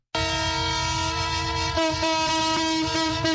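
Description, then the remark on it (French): A freight train carrying fuel from Pointe-Noire, 510 km away, arrives at the central station in Brazzaville, its whistle blaring loudly and steadily, a sustained harmonic tone that shifts pitch slightly partway through, with the low rumble of rolling cars beneath it. “Ce sifflement en plein Brazzaville confirme bien l'arrivée à la gare centrale du train marchandises qui a rallié la capitale en partance de Pointe-Noire à 510 km.”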